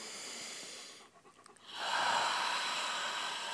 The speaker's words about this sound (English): So one more set of four. One more set of four, yeah. Great. So breathing in.